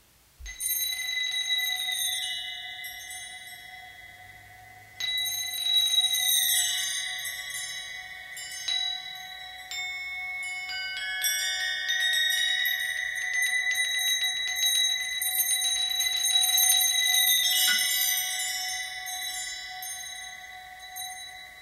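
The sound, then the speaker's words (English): Tones representing hydrogen's Balmer series spectral lines sound in sequence from high to low, bright bell-like notes entering one after another and layering into a sustained shimmering chord, with no voices. “So I'm going to play that one from high to low, because this is an interesting effect.”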